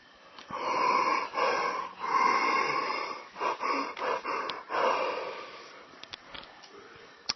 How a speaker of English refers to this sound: So you can mix a sound with the breath. So connecting a yawn and a sigh and inventing that.